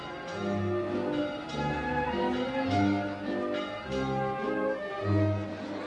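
Church tower bells ring out joyfully in a steady, overlapping peal as a traditional procession reaches the Plaza Mayor, strikes recurring about once a second with rich, sustained metallic tones layering over one another. No voices are heard.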